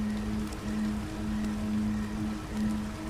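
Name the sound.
flowing stream of water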